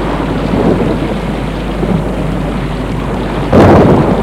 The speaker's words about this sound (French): Le tonnerre.